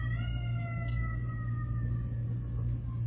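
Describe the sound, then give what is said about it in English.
An emergency siren with an odd, unfamiliar tone wails steadily, its pitch sliding slowly downward over a heavy low rumble, continuous with no voices. “I've never heard a siren that sounded like that.”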